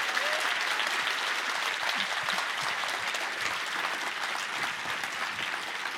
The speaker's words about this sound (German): Bitte Riesenapplaus für die 3 Poeten und Poetinnen.